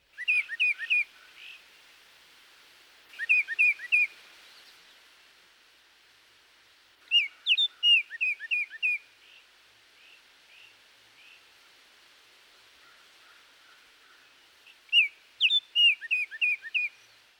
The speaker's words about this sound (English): The oriole also has a two-noted phrase, similar to that of the cardinal or titmouse.